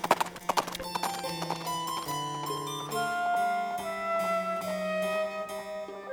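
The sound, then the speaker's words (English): The hooves of a big horse carrying two riders clip-clop in a quick, even rhythm for the first second or so, then fade as sustained melodic tones carry on steadily to the end. “Shraga and Riffle got onto the big horse, and they rode for a few hours.”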